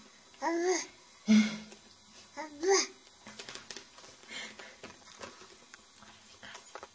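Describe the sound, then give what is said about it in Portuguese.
A baby girl babbles a few short, high-pitched syllables like "abá" in separate bursts over the first few seconds, followed by quieter background rustling and faint tapping. “Mas tens de contar as frequências, porque isto é tudo o que ela diz.”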